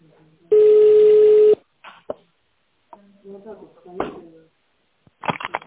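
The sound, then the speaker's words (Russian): A single loud, harsh touch-tone beep on a phone line as an extension number is dialed in tone mode, held for about a second, then scattered clicks and faint muffled line sounds, with a short scratchy burst at the end. “Если вы знаете внутренний номер абонента, наберите его в тональном режиме.”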